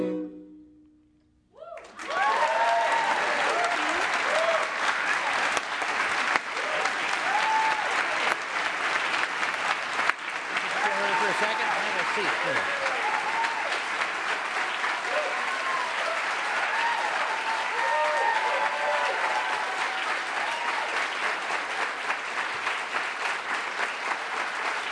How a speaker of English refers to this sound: Did you want to hear your own applause? Is that the idea? Oh, yeah. Can you just amplify it? Have it on loop for yeah. me. Yeah, have it on loop.